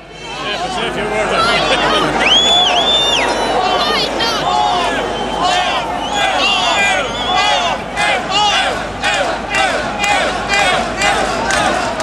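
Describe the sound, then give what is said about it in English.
A dense, loud crowd of protesters roars continuously on Molesworth Street, Dublin, at 1 p.m. on Wednesday 22 October, angry at the government's cut of universal medical card entitlement for over-70s. Many voices shout and chant at once, with sharp raised cries and whistle-like tones rising above a steady rumble of angry street noise. “This is what this collective anger sounds like by Wednesday, the 22nd of October. 1 p.m., Molesworth Street, Dublin.”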